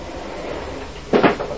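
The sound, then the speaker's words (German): A door is handled: a soft rustle, then a sudden burst of clattering and creaking as it opens, followed by a few lighter knocks as someone walks through the door. “Normale Türen sind so leicht zu durchschreiten, wenn ich zum Beispiel durch diese Tür durchgehe.”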